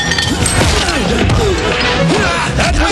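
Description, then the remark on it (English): A loud, sustained crash as a large closet bursts open after a person is thrown against it during a fight, and assorted objects, one looking like a beer keg, clatter and tumble out, a dense jumble of banging and rattling over continuous background noise. “A large closet just came open that Rennick threw Margaret Gray against, and all kinds of stuff came rolling out of there.”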